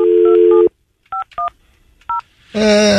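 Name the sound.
telephone dialing touch tones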